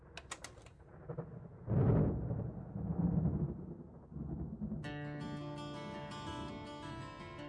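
A deep, rolling rumble of thunder swells twice, low and heavy, as a storm comes in, before a steady musical tone takes over in the final seconds.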